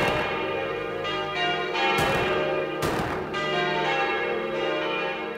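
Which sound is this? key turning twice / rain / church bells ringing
church bells ringing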